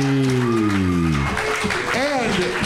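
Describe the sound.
A crowd applauds steadily throughout, a dense wash of clapping, while a loud voice calls out over it with a long falling whoop at the start and more shouting later.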